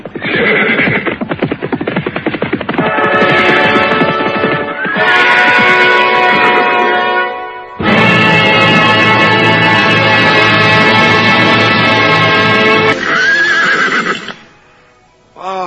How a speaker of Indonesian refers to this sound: Akhirnya pagi tiba, dari jauh terdengar derap orang-orang berkuda.